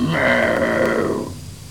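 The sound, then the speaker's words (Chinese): A man's voice imitates a tiger's roar in one long, loud, growling call that holds steady for over a second, then fades away. “如今有确实禁锢，老虎啊，只要对住空中一声喊。”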